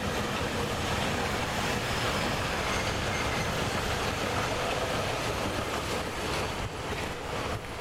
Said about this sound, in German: Jo, U-Bahn.